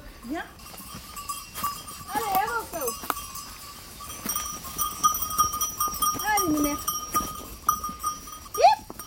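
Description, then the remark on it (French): A herd of Alpine Chamoisée goats bleats several times, wavering cries rising and falling, while hooves clatter and a bell clanks as the animals move about outdoors in woods on the forest foothills above a house. “Et donc là, c'est garde-manger pour les chèvres.”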